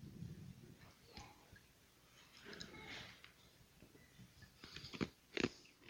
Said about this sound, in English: Sorry, I got a piece of ice. I'm beginning my sermon by chewing on some ice. I hope that doesn't mean I need to be cooled off.